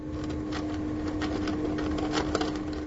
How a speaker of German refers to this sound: In ihrer Plastikbox raschelt eine schlanke, schwarze Maus mit Holzspänen und Papierschnipseln. In dieser Umgebung wirkt die Maus völlig normal.